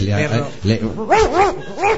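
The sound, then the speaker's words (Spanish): A voice talks briefly, then a small dog named Zaplanita, which has just urinated again, gives three quick, high yappy barks in a row, fairly loud, with slightly whiny tones. “El perro se ha meado otra vez, ¿eh?”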